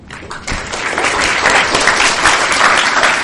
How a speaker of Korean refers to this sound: 자, 이렇게 해서 2시간 30분가량의 토론회는 큰 박수 속에 마무리가 됐습니다.